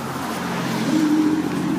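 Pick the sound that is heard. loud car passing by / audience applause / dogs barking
loud car passing by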